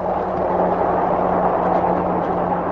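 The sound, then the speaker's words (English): A train passes Walden Pond, near the site of Thoreau's cabin, in a steady, unbroken roar, with a low droning hum running underneath and no change in loudness across the few seconds. “The train runs right over there.”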